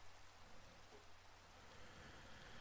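Steady storm rain hisses in a dense, unbroken wash of noise, soft, holding an even level throughout with no voices or distinct individual drops standing out.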